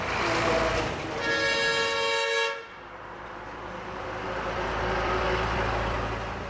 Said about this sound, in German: Am Stadtrand von Yangchuan in der nordchinesischen Provinz Shanxi. Mit jeweils 30 Tonnen Kohle beladene Lastwagen donnern in Richtung Autobahn.